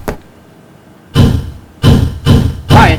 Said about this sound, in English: Come along. I'll knock.